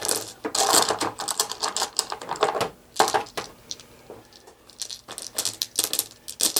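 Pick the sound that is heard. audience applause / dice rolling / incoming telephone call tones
dice rolling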